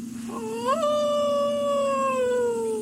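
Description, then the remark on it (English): A single drawn-out wolf howl swoops upward, then holds and slowly sinks in pitch, fairly loud over a steady low hum, with no talking. “Oh, I hate wolves.”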